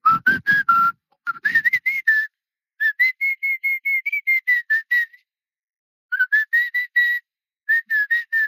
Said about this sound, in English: Your whistling was a little shaky at first.